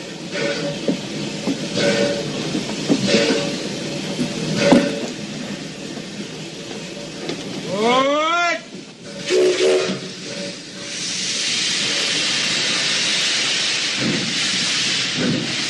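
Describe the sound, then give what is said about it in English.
A steam train pulling out of a station rumbles along with rhythmic chugging, then lets out a rising, wavering whistle, followed by a long, steady hiss of escaping steam. No one speaks. “they were late and they had to chase the train to get on it”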